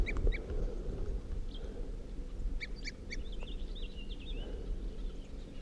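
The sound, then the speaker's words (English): A crossbill in a ponderosa pine on a hilltop gives short, clipped toop calls in brief clusters around 8:23 p.m., with a few chattering notes in between, heard faintly over a steady low rumble of background noise. “This tree I was looking at with a tooping crossbill.”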